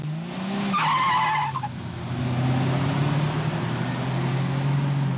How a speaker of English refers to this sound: Luis burned a little rubber there, and he was on a dirt track when he did it. That's amazing. It's the World of Outlaws Sprint Car Series, and it's going to be at the Stockton Dirt Track.